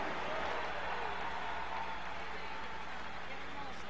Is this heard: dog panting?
no